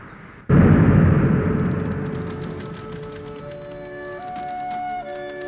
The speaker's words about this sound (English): The big iron gates clanged shut for the last time